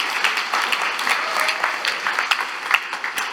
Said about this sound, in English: Come on, give the Lord a good clap on. Isn't that good? Isn't God good?